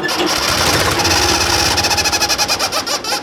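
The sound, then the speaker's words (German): A loud 1970s tractor engine chugs in a steady rhythmic pulse while a rubber chicken, blown by air from the tractor's exhaust pipe, squawks along, giving a buzzing, honking squeal with each beat. No one speaks. “Damit klingt der Traktor auch einfach viel lustiger.”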